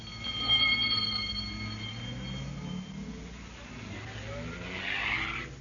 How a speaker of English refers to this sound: The ambulance drove off to the local hospital.